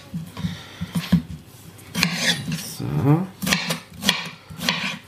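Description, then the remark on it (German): A knife chops repeatedly on a new wooden cutting board with sharp, fairly loud clacks in an uneven rhythm, mixed with kitchen clatter while a person speaks. “habe ein neues Brettchen, hört man, ne? Nicht mehr so leise wie die anderen, aber ist schön.”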